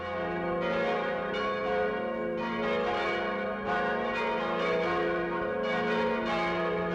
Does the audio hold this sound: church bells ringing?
yes